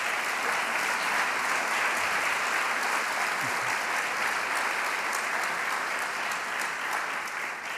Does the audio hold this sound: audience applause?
yes